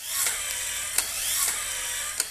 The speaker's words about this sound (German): Sie hält ein kleines Gerät an den Oberschenkel. Das treibt über Magnete den Motor samt Marknagel in ihrem Knochen an und lässt den Knochenspalt sanft auseinanderziehen. Das klingt dann so.